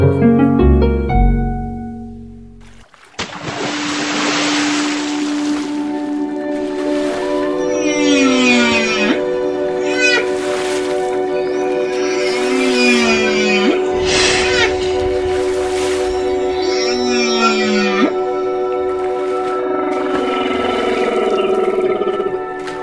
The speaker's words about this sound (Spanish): Así se escucha el canto de una ballena jorobada en Bahías de Huatulco. Las ballenas jorobadas, también denominadas yubartas, son unos cetáceos de gran tamaño que pueden llegar a medir hasta 16 metros y pesar 36 mil kilos.